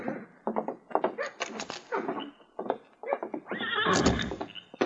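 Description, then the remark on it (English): Three horses whinny loudly, with a long, shrill neigh building near the end, while hooves clop and thud irregularly underneath. “Three horses? Yeah. We brought one just special for you.”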